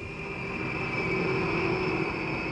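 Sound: airplane taking off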